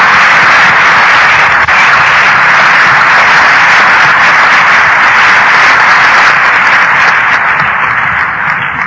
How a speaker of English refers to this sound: And I think maybe we owe him an applause. He did a lot of work just to get it there.